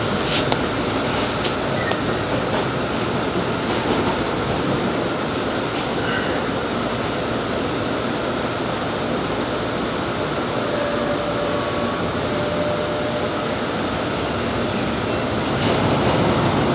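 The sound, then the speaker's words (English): Steady, dense rumble of a light rail train bound for Cleveland Circle rolling along the tracks into Tappan Street stop, with faint metallic squeals and occasional clicks, heard from inside the car at a constant loud level. “The destination of this train is Cleveland Circle.”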